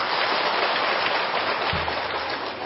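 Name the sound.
heavy rain pouring down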